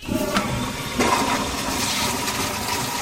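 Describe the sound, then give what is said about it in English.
A toilet flushes, a loud, steady rush of swirling water that fills all three seconds without fading, with no voices over it. “So after you flush, wash your hands, what happens next?”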